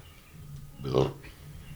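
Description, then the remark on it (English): A single abrupt sneeze bursts out with a brief voiced, slightly snorting edge, stands out clearly over faint background hiss, then quickly fades. No one is talking. “Gesundheit.”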